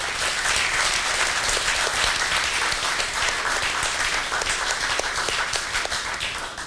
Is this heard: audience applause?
yes